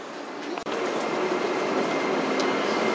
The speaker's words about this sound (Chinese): The next station is 十里河， Please get ready for your Passengers for line 14, please prepare to get off. 十里河站到了， We are arriving at 十里河 station。